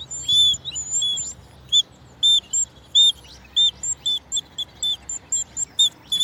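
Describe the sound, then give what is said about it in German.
A mini bird whistle imitates birdsong with high, piercing tweets: a quick warbling flurry, then a string of short, evenly spaced chirps, fairly loud, with no voices, played at Tierpark Hellabrunn zoo. “Ich bin leider kein begabter Vogelpfeifenspieler.”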